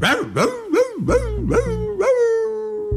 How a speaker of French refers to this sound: On entend le son du cor et les cris des chiens.